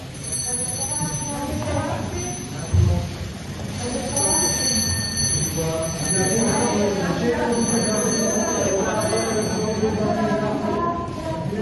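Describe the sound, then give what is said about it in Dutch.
A small bell rings at the campanella ceremony, the symbolic handover from Draghi to Meloni, with a high, bright, sustained tinkle that pauses briefly a couple of times, heard over a steady murmur of many voices. “Ja, wij hoorden het belletje. Oftewel la cerimonia della campanella, de ceremonie van het belletje.”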